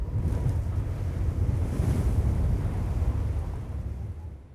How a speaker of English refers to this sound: In the mountains, it's windy today.